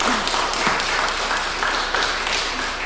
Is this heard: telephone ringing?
no